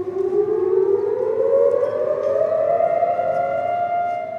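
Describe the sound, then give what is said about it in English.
A loud, sustained civil defense siren wails steadily across Israel on Holocaust Remembrance Day, its tone slowly rising in pitch, with no voices present, as traffic stops on highways and people stand for two minutes. “Sirens blared across the country, traffic stopped on highways, and Israelis stood for 2 minutes of reflection.”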